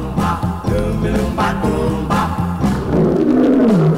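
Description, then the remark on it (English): A lion roars loudly. Deep, rumbling growls build into a long, sweeping roar that slides downward at the end, steady and full for about four seconds with no talking. “The lion ain't asleep, and he's hunting for some meat, oh help.”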